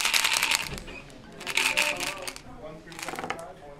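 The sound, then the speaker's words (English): Playing cards riffle and shuffle in three quick, crisp bursts, fairly loud, during poker, blackjack, dice and keno games at a Little Reno Day social event of the Circle of Friends program in the town of Burney, California, with a faint murmur of people talking in the background. “We're all just playing poker and blackjack and dice and keno, and it's kind of fun.”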